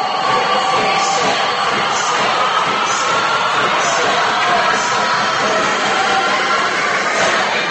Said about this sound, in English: It is a noisy Jackson Center High School gym here at the Habitat of the Cat.